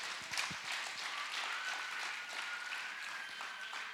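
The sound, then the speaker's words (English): A church audience breaks into sustained applause for the Lord, a dense wash of many hands clapping at steady loudness for several seconds, with a faint high tone running through it. “Clap for the Lord, it's wonderful.”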